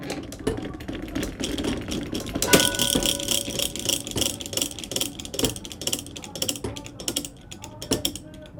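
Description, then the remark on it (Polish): Dense mechanical ratcheting and clicking from the gears of a 260-year-old clock built by a blacksmith, a rapid irregular rattle of pawls and cogs with bright metallic ticks, steady in loudness, with faint voices murmuring underneath. “To nie wygląda jak współczesny zegar.”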